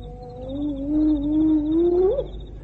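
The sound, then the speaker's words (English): A hyena gives one long, drawn-out whooping call, starting low and tonal and slowly rising in pitch before a quick upward lift at the end, with no voices present. “Oh, hyena. No meal for you tonight, friend.”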